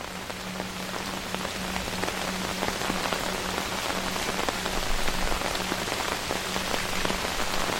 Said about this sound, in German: Gehst weiter, spürst die feuchte Kühle der Luft auf deiner Haut und hörst das gleichmäßige Rauschen des Regens.